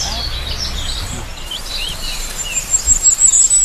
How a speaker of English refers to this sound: So we're hearing birds above us as well.